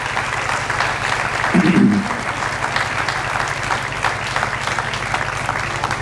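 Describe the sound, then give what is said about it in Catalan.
Sustained applause for the sponsors from a sizable audience, a dense steady patter of many hands clapping at once, filling the space evenly and briefly swelling louder near the start. “Vinga, va, un fort aplaudiment pels patrocinadors.”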